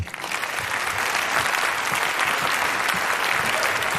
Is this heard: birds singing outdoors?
no